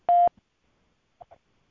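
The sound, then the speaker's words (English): One loud, steady electronic telephone tone, about a fifth of a second long, followed a second later by two short, faint blips of dialing tones as a call is placed to Blog Talk Radio. No one speaks. “Calling Blog Talk Radio.”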